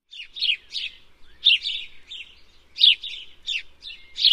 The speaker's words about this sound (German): Hör mal, wie die Vögel im Garten zwitschern. Tirili, chip, chip. Chip, chip, macht der Spatz.